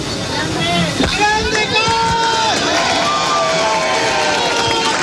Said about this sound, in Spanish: La gente aplaude en este momento.